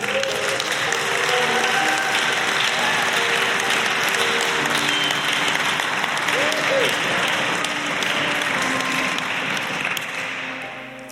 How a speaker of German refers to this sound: Lasst uns doch mal den Leuten einen Applaus geben, auch wenn du nicht weißt, wer sich gerade gemeldet hat, ist überhaupt nicht schlimm. Lasst uns den Leuten mal einen riesengroßen Applaus geben.